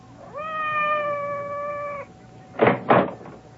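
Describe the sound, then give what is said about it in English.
Madame's cat, Francois, gives one long, steady, drawn-out meow lasting nearly two seconds outside a door, followed by two quick, rough thumps or scratches, like something against the door, with no one talking. “It sounded like Madame's cat, Francois.”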